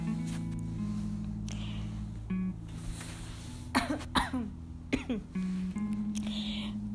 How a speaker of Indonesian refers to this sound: Maaf ya, batuk.